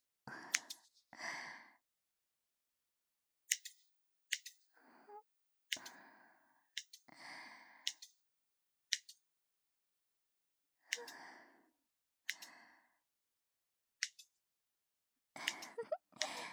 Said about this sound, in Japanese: ハサミのチョキチョキって音、気持ちいいですね。